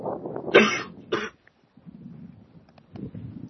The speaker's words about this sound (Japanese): 大丈夫ですか？咳込んでらっしゃいますけど。いや、さらに咳込むスタイルで。